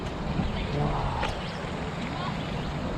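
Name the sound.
running water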